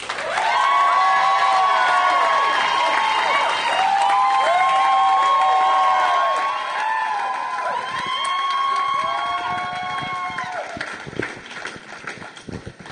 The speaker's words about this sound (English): Now our bootblack contestant is going to come out here and do his speech. Okay, so give him your attention and your applause and give a big round of applause